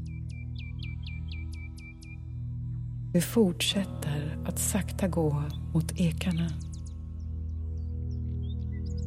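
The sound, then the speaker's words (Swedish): A quick series of high, thin bird chirps repeats about half a dozen times at the start, fairly soft and evenly spaced, before a calm voice begins speaking over a low background hum. “Fåglarna kvittrar och fjärilarna dansar från blomma till blomma.”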